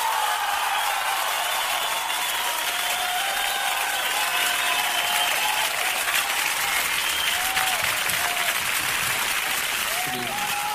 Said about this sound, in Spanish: Un aplauso.